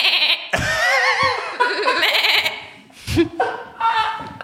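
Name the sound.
sheep bleating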